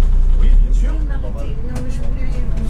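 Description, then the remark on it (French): A city bus idles and rumbles at the Saint-Gabriel bus stop in the faubourg d'Avignon, departing at 8:16, its deep engine drone steady with a rising mechanical whine, while muffled voices murmur faintly in the background. “Arrêt de bus Saint-Gabriel, faubourg d'Avignon. Départ 8h16. Bus.”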